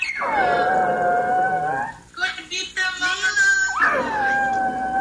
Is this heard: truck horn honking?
no